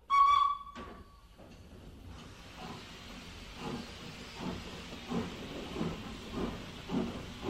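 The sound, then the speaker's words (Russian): A train whistle sounds at the start with a strong harmonic tone, then steam hisses broadly as rhythmic chuffing pulses build, the train pulling out of Solikamsk, Russia. “Поезд двинулся из Соликамска.”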